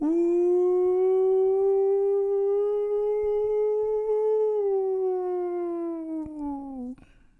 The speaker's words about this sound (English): Tornado warning. Sounds like a train.